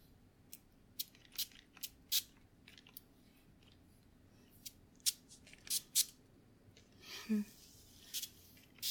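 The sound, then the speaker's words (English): A series of short, sharp clicks and taps, then a brief burst of airy hiss from a spray bottle as setting spray is misted out, followed by a few more clicks. “We're just gonna spray this to set everything.”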